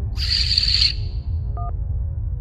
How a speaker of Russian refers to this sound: Алло. Извините, у нас помехи на линии. Вас плохо слышно.